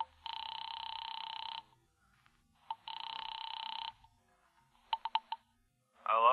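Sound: telephone ringing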